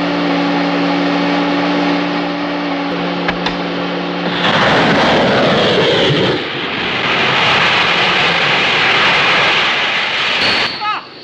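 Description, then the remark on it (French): An airplane engine hums steadily with a tonal whine, then surges into a loud, rushing, powerful roar, like a plane throttling up for takeoff. “Il n'aura pas le temps de prendre l'avion.”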